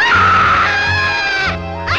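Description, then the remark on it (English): A man screams loudly and continuously for about a second and a half, a strained, harmonic-rich cry that breaks briefly before resuming at full volume. “I realized that I had murdered it, and I took off screaming down the street.”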